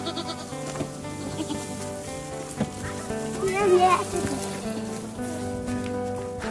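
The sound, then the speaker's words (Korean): White goats bleat, with one loud, wavering cry rising above a busy background of other animal calls and a steady outdoor murmur. “흰염소 여기 있죠?”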